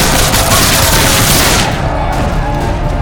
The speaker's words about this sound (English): Get that cannon moving! Fire! Shoot them all!